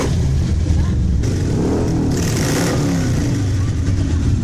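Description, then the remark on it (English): Loud, steady engine rumble fills the scene, with revving surges rising and falling as several motorcycles pass, a continuous throaty roar throughout. Hundreds of motorcycles arriving in Oark, in the mountains of northern Johnson County, Arkansas, at the historic Oark General Store during Bikes, Blues, and Barbecue. “Over the weekend, hundreds of motorcycles rumbled into Oark to have a home-cooked meal at the historic Oark General Store.”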